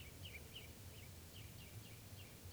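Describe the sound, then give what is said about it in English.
A quiet, steady series of short, high chitter notes from perched birds repeats about every quarter second over a low rumbling background, with no voices. “Recording, the birds are just perched here for a long time giving alarm calls to each other and now to give you chitter notes.”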